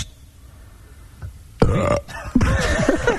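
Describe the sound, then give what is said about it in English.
Two loud burps on air during a radio broadcast, after a quiet moment: a short, throaty one, a brief pause, then a longer, rumbling belch that drags on to the end. “He's just a boy with a big mouth, burping on air.”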